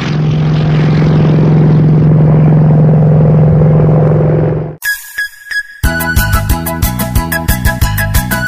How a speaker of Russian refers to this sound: Посмотрели мы вперед, видим в небе самолет.